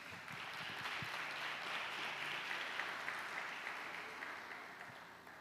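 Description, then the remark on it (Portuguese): An audience breaks into sustained applause in praise of the Lord, a dense wash of many hands clapping that holds steady for several seconds before tapering slightly, with no talking over it. “Louvo o Senhor com suas palmas, amém?”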